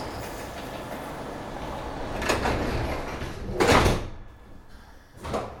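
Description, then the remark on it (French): Metro train doors slide open and shut with sharp whooshing bursts over a steady rumble of the carriage, on a metro ride en route to Porte de Versailles, followed by another brief swish near the end; no one speaks. “Dans le métro, en route pour la porte de Versailles.”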